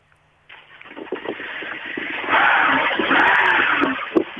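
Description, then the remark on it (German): An old car engine cranks and catches after a brief silence, settling into a rough, rattling idle that swells louder midway, with a sharp knock near the end. “So, naja, und das Auto ist jetzt startbereit und kann anspringen.”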